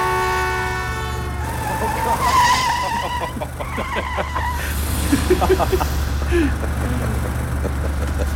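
A car engine rumbles loudly and steadily throughout while tires screech in a series of sharp squeals, with a sustained horn blast at the very start.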